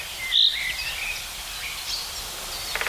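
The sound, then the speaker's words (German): A high, thin, cricket-like song of a bird heard in Brandenburg and Berlin: a sharp bright note, then faint buzzy trills and chirps trailing off over a soft hiss, with a quick ticking flutter at the end. “Bisschen wie eine Grille, sagen viele.”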